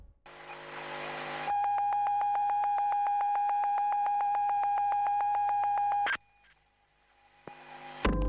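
A loud electronic beeping pulses rapidly and evenly for several seconds over a steady tone, then cuts off abruptly, leaving near quiet before a short burst of noise at the end.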